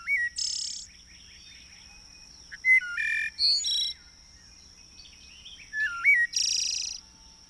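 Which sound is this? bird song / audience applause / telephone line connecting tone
bird song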